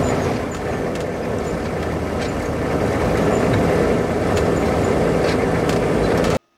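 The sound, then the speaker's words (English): A Humvee rumbles along steadily with a loud, continuous low engine drone and rattling, unbroken for several seconds before cutting off abruptly. “There's a Humvee moving sound.”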